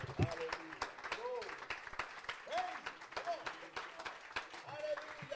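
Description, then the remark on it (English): A large audience in Sterling claps hands continuously to give the Lord a hand clap on a summery Thursday, in a dense, steady wash of applause, with voices calling out and cheering over the clapping throughout. “Let's give the Lord a hand clap tonight.”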